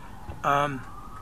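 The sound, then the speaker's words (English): A police siren sounds in one short, loud wailing burst with a slightly falling pitch, then trails off into a thinner, fainter tone that lingers in the background. “And it's causing all kinds of problems as the police siren starts to go off.”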